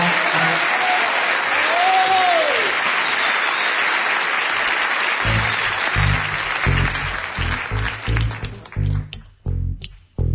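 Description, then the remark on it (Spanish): A loud, dense ovation of clapping from a large audience as the writer's name, Mempo Giardinelli, is revealed, with a few whistles early on, thinning out toward the end into scattered claps and rhythmic low thumps. “Para que al descubrir la gente el nombre, estalle en una ovación.”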